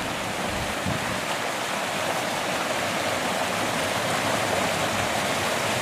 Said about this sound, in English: The creek runs hard all year long.